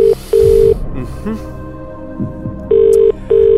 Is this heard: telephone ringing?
yes